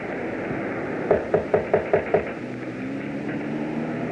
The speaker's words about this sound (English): Is there a bell? No. I'll knock again.